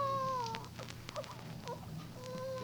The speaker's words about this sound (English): No, that wasn't no coyote. Why? It's a baby.